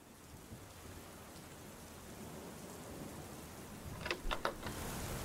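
A storm with heavy rain pouring steadily and a low, rumbling undertone of thunder, with a few sharp crackling bursts near the end. No one speaks.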